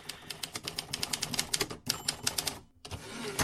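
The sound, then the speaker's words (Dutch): A general types a document on a typewriter in the adjoining room: rapid, uneven keystrokes clatter, a dense run of sharp metallic taps with a brief pause near the end before the typing resumes. “Ik hoorde de schrijfmachine tikken.”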